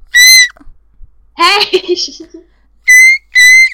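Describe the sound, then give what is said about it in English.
Three short, piercing blasts of a high-pitched bushcraft whistle, one at the start and two in quick succession at the end, loud, with a brief burst of voice or laughter in between. “Holy crap, I have this whistle that goes really high. It's my bushcraft whistle.”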